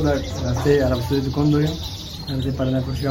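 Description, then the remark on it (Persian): Many small birds chirp and twitter at once in a bird shop, a dense, continuous chorus with shifting high trills and calls layered over a steady indoor hum. “پرنده فروش می گوید که نسبت به گذشته بازار خرید و فروش پرنده ها بسیار کمرنگ شده و علاقمندی مردم به پرنده ها نیز کاهش یافته است.”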